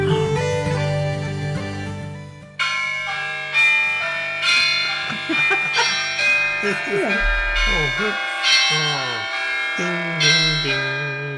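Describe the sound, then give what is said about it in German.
Tower bells peal in overlapping, repeated strikes, each tone ringing on with a long shimmering decay. The sound is loud and full, with people's voices murmuring faintly underneath. “Nein, Glockenturm.”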